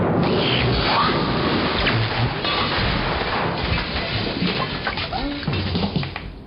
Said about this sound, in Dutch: Nauwelijks had hij de knop omgedraaid of de bliksem sloeg met een dreunende slag in de afloop.